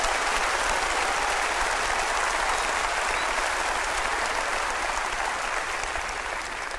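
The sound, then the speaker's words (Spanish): A large crowd at a church sermon claps steadily and loudly, giving applause to the Lord, a dense, sustained wash of applause that fills the whole stretch without a break and tapers only slightly at the end. “Óigame, si usted va a dar ese aplauso, délo como se tiene que dar.”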